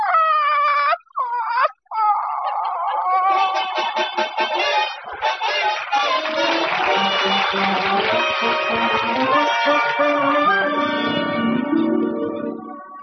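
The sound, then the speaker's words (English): A chicken named Beatrice clucks and squawks loudly in front of Blair House in Washington, starting with two short cackles and then breaking into a busy, continuous stream of agitated calls. “Mom, we can't stand here in front of the Blair House with that chicken the rest of our lives.”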